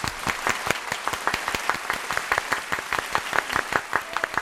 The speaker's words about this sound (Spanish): Oye, el aplauso del día. Total.